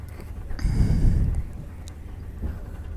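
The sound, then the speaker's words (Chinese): Steady low rumble of train noise, swelling louder for about a second before settling back to a constant drone, with a brief clank partway through. No voices. “是因为火车的噪音太大吗？”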